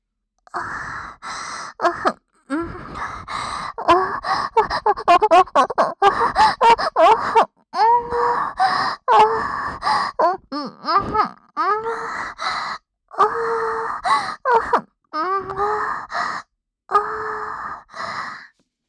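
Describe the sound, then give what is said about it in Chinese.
Loud, repeated sexual moaning from a woman inside a room where a couple is having sex: breathy gasps and drawn-out cries come in quick rhythmic bursts, often sliding upward in pitch, with brief pauses and no spoken words. “里面这对狗男女当叫的声音也太大了吧？”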